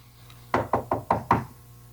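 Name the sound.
knocking on wood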